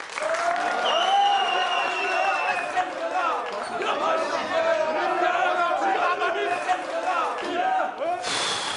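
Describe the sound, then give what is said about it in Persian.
A crowd at a poetry night cheers and applauds steadily, a dense wash of clapping under many excited overlapping voices and shouts, staying loud for the whole stretch before a sharp burst at the end. “شما چیو داشتی تشویق میکردی؟”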